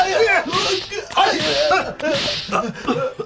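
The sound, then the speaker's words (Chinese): Three sharp whip lashes from an Egyptian overseer land about a second apart on an Israelite labourer, each crack followed by a pained grunt or groan from the man. “可以啊，只要你先替他挨几下鞭子。”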